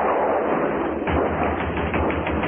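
A series of quick knocks on a door: an apprentice electrician from the Amalgamated Electric Company knocks on the Granges' door. Sharp repeated raps in an uneven rhythm over a constant hissy, rumbling background, with no one speaking.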